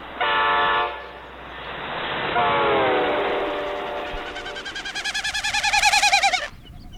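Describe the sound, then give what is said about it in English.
A male snipe's winnowing display, his rapidly beating wings forcing air through his spread, narrow, stiff outer tail feathers: a hollow, fluttering hoot that swells and pulses rapidly, rising in pitch and loudness before cutting off, heard alone outdoors. “His rapidly beating wings force air through his widespread outer tail feathers, which are narrow and stiff.”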